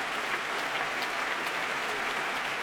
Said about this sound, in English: And here's Ricardo Chailly back. And just listen to the applause from this capacity proms audience.